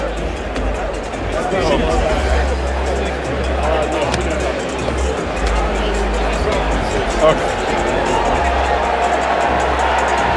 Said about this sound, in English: That's UConn leaving the court. If you're wondering what that little cheer was for